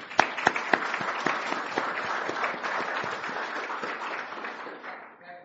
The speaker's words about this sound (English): And so we want a special thanks to our building committee, and they truly deserve a round of applause.